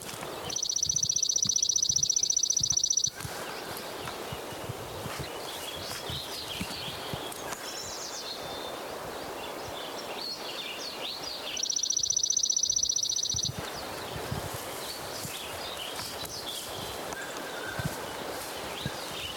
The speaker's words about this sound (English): Good Lincoln Sparrow singing.